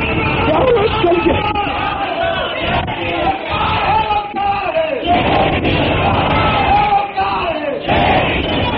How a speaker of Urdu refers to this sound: صرف نعرے نہیں, میں نعرے نہیں چاہتا